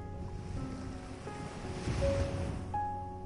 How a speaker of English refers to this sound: Bring with you the quiet of the cove, the rhythm of the waves, the softness of the shoreline, the calm of this hidden and peaceful place.